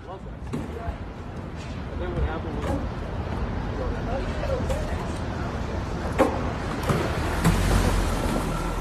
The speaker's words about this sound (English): at least we imagine that truck, you know, zooming off down to Fort Myers, Florida. Let's take a listen to that. It just sounds melodious.